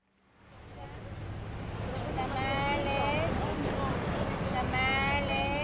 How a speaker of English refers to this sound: I'm looking out now at the Pacific Ocean. It's lapping against the breakwater I'm standing on. The harbour in front of me is filled with anchored vessels, a few Peruvian naval vessels out there as well.